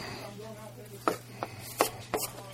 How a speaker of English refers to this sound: All right, so I'm going to take the skin off. And I'm only using about a quarter of an onion here. And just going to sort of give it a rough chop.